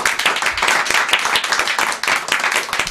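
An audience applauds the wine princess chosen from among them, many hands clapping in a dense, continuous wash of claps that stays loud throughout without any talking.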